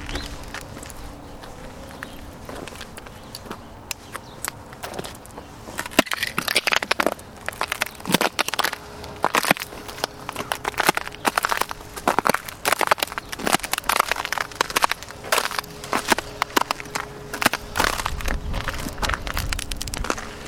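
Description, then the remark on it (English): Ice shatters like a wine glass in a long, steady run of sharp, bright crunches and glassy tinkles, fairly loud, with no one speaking. “I love it when it does that shattering like a wine glass.”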